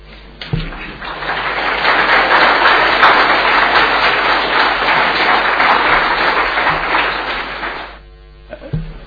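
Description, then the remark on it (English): A council meeting audience bursts into sustained applause after a motion is carried unanimously. Dense, rapid clapping swells quickly, holds steady and loud for several seconds, then fades out with a few scattered final claps. “You may applaud if you wish.”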